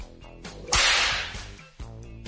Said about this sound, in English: best thing about a whip is the sound of the crack. That's what gets you the respect.